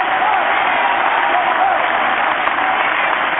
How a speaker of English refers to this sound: So I ask you, stand on your feet, bring him on with a warm round of applause. Show this world that you love him. I bring to you the Honorable Minister Louis Farrakhan.